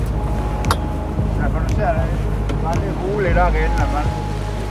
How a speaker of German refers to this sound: Wir klettern vom Steg auf ein kleines Motorboot und fahren raus.